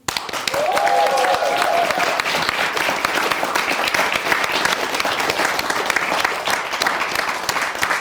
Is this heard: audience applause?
yes